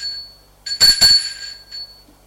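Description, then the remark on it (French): A doorbell at a woman's home rings at 9 p.m. with a bright, high-pitched metallic tone: two quick strikes in succession, followed by a lingering ring that fades out, with no voices. “À 21h, il sonna chez elle.”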